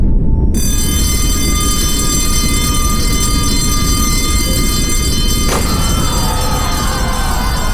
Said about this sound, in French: L'alarme retentit dans tout le lycée.